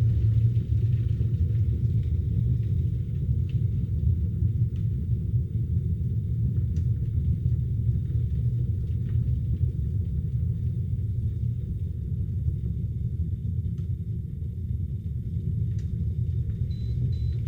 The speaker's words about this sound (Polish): O, było słychać? Takie trzy piknięcia krótkie. Tak, to oznacza, że już woda się zagotowała, czajnik się wyłączył.